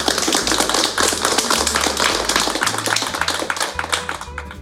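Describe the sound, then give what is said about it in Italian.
Steady, dense clapping from a group fills the whole stretch, a loud continuous patter of many hands over a low, shifting hum underneath. “E tutti applaudirono.”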